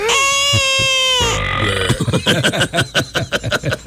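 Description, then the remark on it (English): A voice imitates an infant crying in pain: a loud, sustained wailing cry, breaking into a rough gasp and then a run of choppy, rhythmic sobbing bursts. “A very odd combination of a sound when you have an infant in pain.”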